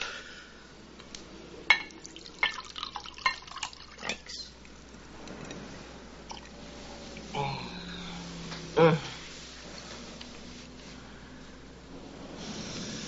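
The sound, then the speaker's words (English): A drink is poured into a glass, a short liquid trickle followed by a bright clink, after a few light tapping and handling noises. “Pour me one, then.”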